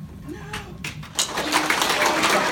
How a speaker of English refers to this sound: was rounding the corner to the girls' bathroom on Thursday when she was met with applause from students and staff.